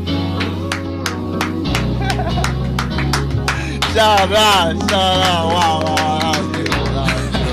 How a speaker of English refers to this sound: First and foremost, the reason why I'm clapping is because, you know, a lot of night music out there is in Zulu, and as a Sotho nigga, I don't understand that shit. So shout out for that Tswana version.